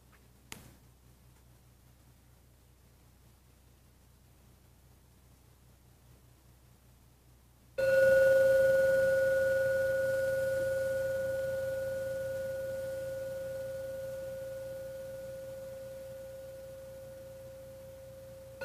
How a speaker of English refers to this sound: I'm now going to ring the gong 3 times. Please listen to every sound from the gong. When the third ringing vanishes, then come out from your meditation.